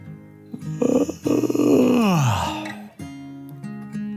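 A single long, loud yawn from a person close by, rising into a strained, open-mouthed vocal stretch before the pitch slides down and fades, with no talking around it.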